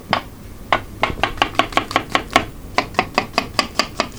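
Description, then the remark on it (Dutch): A knife chops onions and mushrooms steadily on a cutting board, sharp taps in a quick, fairly even rhythm that speeds up midway, with no talking. “Dan gaan we de... uitjes snijden en de paddenstoeltjes snijden.”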